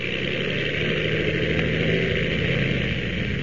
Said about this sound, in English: As our last episode ended, the Ottawa plane was just taking off when...